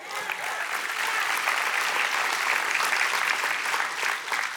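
crowd, audience hand clapping

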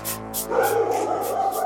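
animal, police dogs barking

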